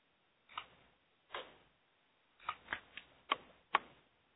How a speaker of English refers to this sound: See, you're typing